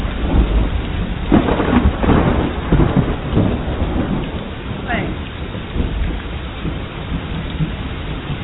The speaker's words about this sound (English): Rain came. It rained. It rained. It rained.